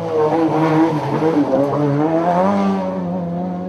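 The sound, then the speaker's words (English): A historic rally car races past at high speed on a rally stage, its engine revving hard with rising and falling pitch as it works through gears and corners, with a little left-foot braking, loud, with no voices. “Brilliant, a little bit of left foot on the brake there just to see. Tidy, it looks tidy and quick.”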